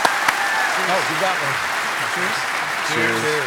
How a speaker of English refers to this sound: It's really hard to get accepted, and these guys did it. So give them a round of applause, please.